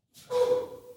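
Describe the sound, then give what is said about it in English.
A single loud sneeze: a short breathy intake, then a sudden voiced burst with a steady tone that tails off gradually. No talking. “Bless you.”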